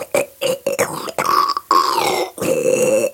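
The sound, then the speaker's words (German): A voice imitates the vacuum an ear, nose and throat doctor uses to suck out the ears, with a run of loud, gurgling, buzzing bursts, some stretching into a droning whine that bends in pitch, with brief gaps between them. “Nee, zum Aussaugen. Da kommt ein Staubsauger und macht...”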